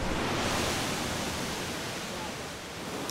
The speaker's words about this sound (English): We are looking at a gorgeous waterfall. The water is just falling on the rocks, and it's not just falling, it's thriving.